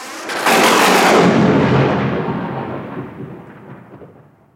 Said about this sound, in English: Thunder and lightning. Sometimes, after a hot summer day, there is thunder and lightning.